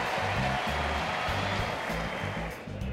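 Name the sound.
stadium crowd applause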